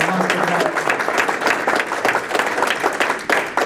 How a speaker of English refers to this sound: First, I want to thank American Fork Hospital for the delicious breakfast. If we can have a round of applause for that.